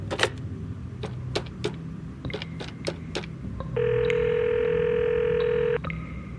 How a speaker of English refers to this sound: Back in my office, I quickly consulted my computer, then picked up my phone and called the number we had in the system.